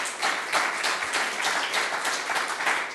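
A steady wash of applause from a large crowd, many hands clapping in a dense, continuous patter at an even, fairly loud level for the whole stretch, with no voices standing out.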